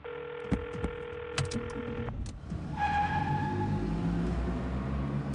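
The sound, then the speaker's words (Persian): A mobile phone rings with a steady electronic ringtone for about two seconds as Agha Hashem calls Payam's mobile again, punctuated by a few clicks, then gives way to a low engine-like rumble and a rising whine. No one speaks. “آقا هاشم چند بار با موبایل پیام تماس گرفته. اتفاقا همین الانم هم دوباره داره تماس میگیره.”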